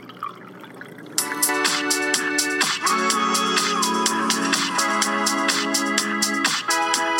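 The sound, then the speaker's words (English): A drink is poured steadily into a glass, a continuous gurgling splash that starts after a brief pause and runs to the end, its pitch rising slightly as the glass fills. “Don't stop. Keep pouring? Keep pouring, my friend.”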